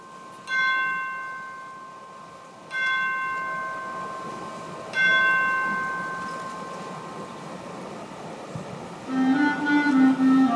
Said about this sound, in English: That's a very hard chime part. To make it sound the same four times is hard.